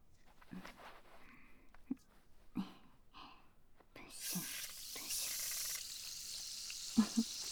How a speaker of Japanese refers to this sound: はい、次はご主人様の好きな炭酸泡でお耳を洗浄していきますね。